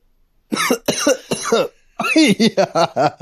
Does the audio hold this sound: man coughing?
yes